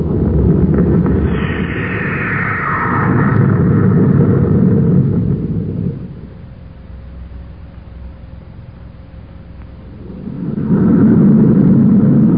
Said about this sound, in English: Have stand by for blast off. Standing by, sir. Close port. Fire jets.